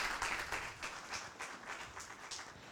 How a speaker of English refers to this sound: And I'm really excited to hear about that. Big applause. Thank you.